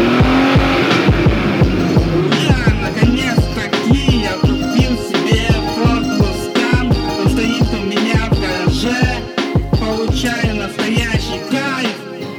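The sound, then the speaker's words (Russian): A powerful Ford Mustang engine rumbles loudly, its deep throbbing pulsing in a steady rhythm as the car drives into a yard, with no voices over it. “что за калмагов на во двор заезжает. Это же Ford Mustang, гитарная машина.”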